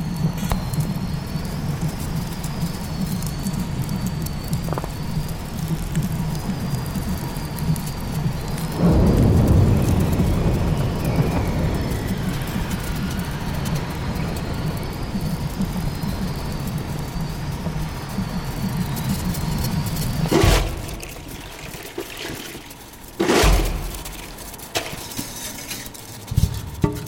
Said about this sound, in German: Ich höre auf meinen Kopfhörern den Schneesturm, der gerade über dem Weddellmeer tobt. Unsere vier Unterwassermikrofone senden per Funk Geräusche aus dem Schelfeis.